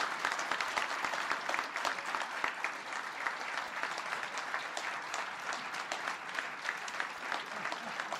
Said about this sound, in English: Please give them a big round of applause.